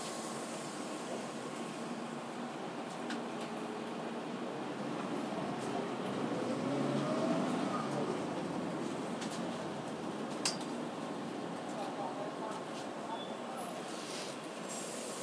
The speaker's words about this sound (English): Right, here we are back at Waterloo Station, about to make the usual nightly dash for the train.